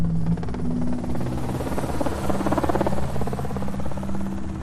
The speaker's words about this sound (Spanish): estaba trabajando en la calle Azoque, frente al Hotel Corona de Aragón, cuando escuchó las aspas del helicóptero.